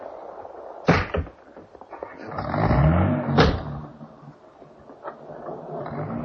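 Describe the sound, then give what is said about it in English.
A car door slams shut with a sharp thud, then an engine revs up and the car pulls away, followed by another clunk and a steady rumbling hum as it drives off. “Get back in the car, darling.”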